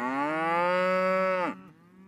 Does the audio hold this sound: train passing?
no